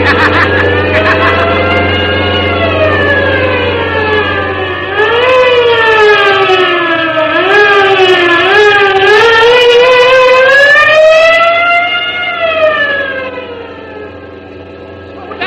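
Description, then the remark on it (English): Police car sirens wail continuously during a chase, their pitch sweeping up and down in overlapping rising and falling tones, over a low, steady engine rumble, fading slightly at the end. “Wait, what's that? Sounds like the police.”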